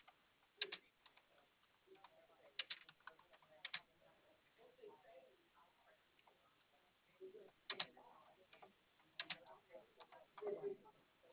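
Quiet typing on a computer keyboard as someone writes down what another person said: short bursts of crisp key clicks in uneven clusters, separated by brief pauses, soft.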